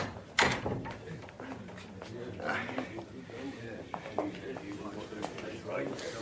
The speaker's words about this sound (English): Now shut the door!